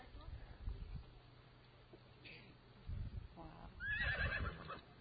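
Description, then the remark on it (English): Horses whinny and neigh, upset at seeing one of their companions being lassoed, with a brief cry partway through and then a louder, shrill, quavering whinny near the end, over a low rumbling background. “Horses all over the place are getting upset.”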